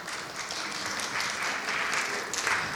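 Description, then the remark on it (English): A crowd claps steadily for a few seconds, a dense, sustained patter of many hands at moderate volume with no voices standing out. “One should get a round of applause.”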